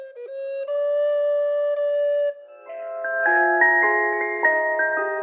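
An old English folk tune composed in 1580 rings out in bright, electronic chime tones: a few long held notes, then a moving melody over steady chords, moderately loud with no voices.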